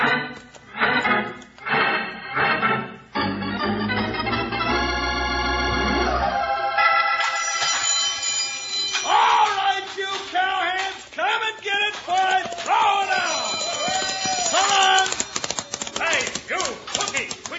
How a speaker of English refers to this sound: Triangle, I'll wrap it around your neck. Now, what's the matter? I thought it sounded right pretty.